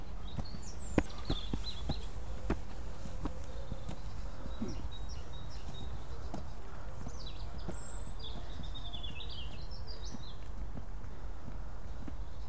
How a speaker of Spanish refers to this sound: Me encanta cuando estás en el medio de una ciudad y estos sonidos de la naturaleza, de un río, de un parque, los pájaros, las hojas, me parece, no sé, tan relajante. Es como suelen decir, ¿no? Un oasis dentro de la ciudad.